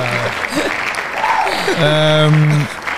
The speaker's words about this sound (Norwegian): Applaus for det.